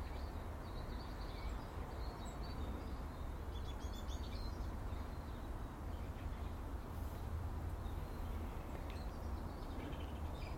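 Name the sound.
morning birdsong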